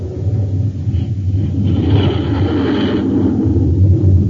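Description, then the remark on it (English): A Scorpion jet fighter, a 20-ton aircraft with a 53-foot length, 56-foot wingspan and rocket pods on its wingtips, taking off, heard as a loud, continuous low roar that swells with a rushing, hissing edge midway through before settling back into a steady rumble. No voices. “The Scorpion takes to the air like magic.”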